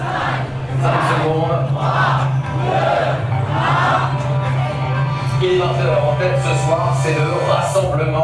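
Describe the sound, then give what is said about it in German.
A large crowd of supporters of the Renaissance list of President Macron's party La République En Marche, many in blue hoodies with yellow stars and holding small European flags, loudly chants in unison a countdown of the last seconds until the election projection, one number roughly every second, over a steady low hum and constant background noise. “Fingernägel knabbern, zählen die Anhänger, viele von ihnen in blauen Kapuzenpullis mit gelben Sternen und mit Europafähnchen in der Hand, die letzten Sekunden bis zur Prognose.”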